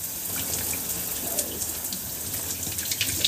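shower water running

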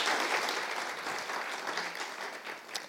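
warm round of applause

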